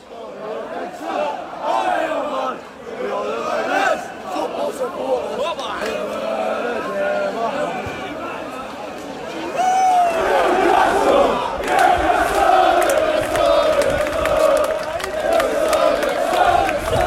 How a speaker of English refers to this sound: what you'll hear now is the atmosphere around St James's Park from various points in the day